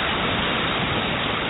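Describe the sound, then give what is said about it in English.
A steady, dense wash of falling rain, a continuous even hiss with no breaks, moderately loud, with no voices. “In the rain.”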